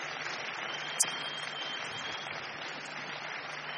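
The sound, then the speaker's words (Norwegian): An audience claps steadily for a report on Bible study groups and a planned new autumn course, a dense, even patter of many hands that holds at a moderate level throughout, with one sharp click standing out early on. No one speaks. “Kjempebra, det fortjener en applaus.”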